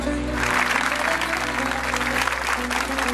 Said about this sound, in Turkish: Alkışlarınız öncelikle onun için gelsin.